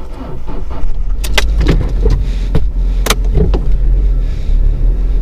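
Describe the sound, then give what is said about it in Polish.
A car engine rumbles steadily while sharp clicks and a brief jingle of keys sound over it as the car pulls out of a parking lot; no one speaks. “Mała tradycja się utarła, że większość moich podcastów prowadzę w samochodzie i zaczynam je w ogóle prowadzić w momencie, kiedy wyjeżdżam z parkingu.”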